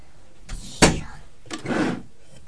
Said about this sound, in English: Shut. You shut the door. You shut the door.